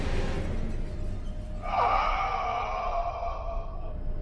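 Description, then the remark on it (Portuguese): Heavy, labored breathing: a long breathy exhale followed by a drawn-out, raspy, slightly wheezing breath that lingers for a couple of seconds, with no talking. “A umas três portas de chegar ao final do corredor, vocês ouvem o som de uma respiração bem pesada.”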